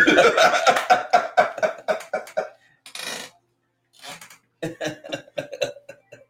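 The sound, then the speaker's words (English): A loud fit of rapid coughing in quick bursts, a breathy rasp in a brief pause, then another run of harsh coughs. “I probably can't cough anymore.”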